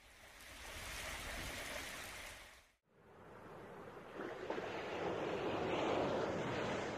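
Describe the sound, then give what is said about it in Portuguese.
Steady roar of ocean waves and surf as someone surfs, broad and rushing, with a brief cut to silence partway through before the wash returns a little louder. No voices. “Do vento, da chuva, de alguém a surfar.”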